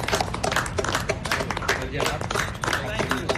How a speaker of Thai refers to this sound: เสียงปรบมือจากหญิงชายเชื้อสายไทยผู้สวมใส่เครื่องแบบทหารของกองทัพสหรัฐเป็นอีกเสียงหนึ่งนะคะที่เข้าร่วมการแสดงออกเชิงสัญลักษณ์ที่แพร่หลายไปทั่วโลกเพื่อร่วมให้กำลังใจแพทย์พยาบาลและเจ้าหน้าที่สาธารณสุขในประเทศไทย